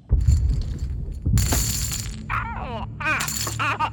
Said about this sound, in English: What is that? Laser cannons.